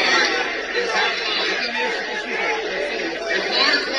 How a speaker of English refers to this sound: Now, I want to hear what he's going to say. And you can hear from the crowd, they don't like what's going on. Maybe some do like what's going on.